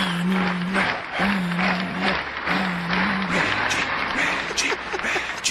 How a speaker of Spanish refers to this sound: Mira, este es el aplauso, ¿viste?